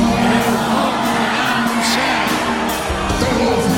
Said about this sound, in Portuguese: Mas não pode ser baixinho, não. Tem que ser brado de autoridade. Quando eles derem o brado, vocês entram cantando. Vamos lá. Quando eu disser três, vocês gritam. Eu vou morar no céu. Vamos lá. Um, dois, três.